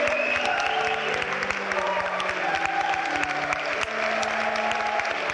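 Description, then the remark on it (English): A large audience at the dress rehearsal of a passion play breaks into sustained, dense applause after the final scene, a steady wash of clapping with faint crowd murmur mixed in throughout. “The dress rehearsal audience erupts into applause.”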